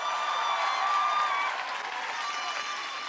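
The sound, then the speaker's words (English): A crowd applauds and cheers after a speech in a steady, dense wash of clapping with raised voices and shouts mixed in, holding at a fairly even loudness for about three seconds. “Hey, give her one more round of applause.”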